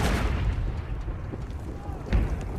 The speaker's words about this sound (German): Die Soldaten hocken verängstigt in ihren Gräben, in der Ferne grollen die Kanonen. Heiligabend 1914 in Belgien.